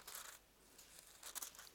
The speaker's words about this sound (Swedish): Jag tänker att när man kommer till Johannes 20, vad händer där? Vi bläddrar några sidor.